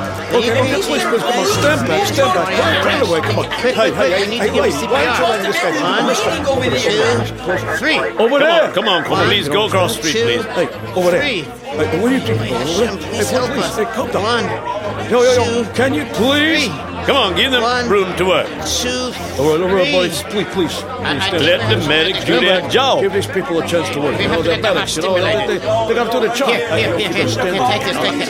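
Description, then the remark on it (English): Loud, dense crowd chatter on a street, many overlapping voices forming a steady babble with no clear words, unbroken for the whole stretch. “Officers, can you please control the crowd over here, please?”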